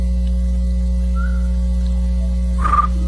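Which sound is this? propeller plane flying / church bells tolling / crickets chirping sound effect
crickets chirping sound effect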